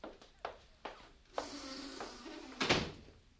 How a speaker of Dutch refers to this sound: Sluit die deur, hostess.